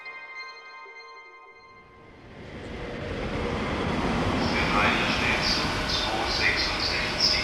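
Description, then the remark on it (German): Train station ambience as a train rolls through, its deep rumble swelling after a brief tonal hum and holding loud, with high metallic squeals flickering over the noise. “Oh, was wollen Sie denn am Bahnhof?”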